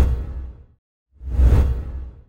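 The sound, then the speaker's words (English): A whooshing transition effect in two parts: a broad rushing sweep that fades out, a brief silence, then a second louder whoosh swelling to a peak and tapering off. No voices. “I was unprepared and I swooshed myself in.”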